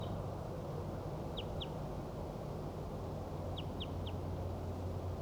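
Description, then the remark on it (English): A wild bird calls in the distance: two short, high, faint notes, then a pause and three more, all over a steady low rumbling background with no talking. “I think that was a wild bird.”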